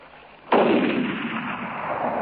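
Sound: rifle gunshot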